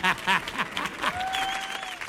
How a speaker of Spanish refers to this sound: ¡Fuerte el aplauso para Marc Lenders!